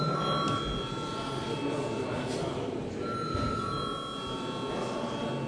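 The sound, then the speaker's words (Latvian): A chamber bell in the Latvian Saeima rings steadily for several seconds to call members to vote on a bill in first reading, a sustained high electric tone over a low murmur of people in the hall. “Paldies, lūdzu zvanu.”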